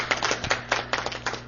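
An audience claps for a speaker in a steady, brisk rhythm, the sharp claps blending into a moderately loud patter over a low, constant hum, with no voices.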